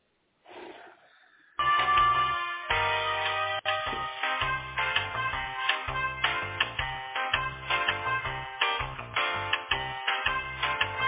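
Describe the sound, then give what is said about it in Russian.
A phone line rings while a caller is transferred directly to a support line: after a brief hiss, a tinny, narrow tonal melody pulses in a steady rhythm for about ten seconds, with no one speaking. “Все, соединяю тогда вас.”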